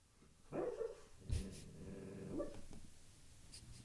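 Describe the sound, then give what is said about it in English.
A dog named O'Neill, dreaming, gives a few soft, muffled woofs followed by a long, low, rumbling growl and a final stifled bark, all fairly quiet with no voices. “I don't know if you can hear O'Neill. He's having a dream.”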